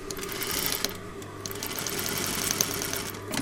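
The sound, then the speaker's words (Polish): An embroidery sewing machine stitching an apron runs steadily with a rapid, even mechanical chatter and a low motor hum, with a few sharper clicks and taps over the continuous whir. “więc teraz szalejemy z tą hafciarką”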